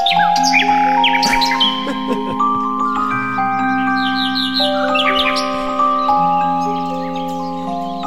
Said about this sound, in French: C'est spécial, hein? C'est toutes des pièces connues comme ça. Toujours des oiseaux au travers de ça. C'est vraiment magnifique.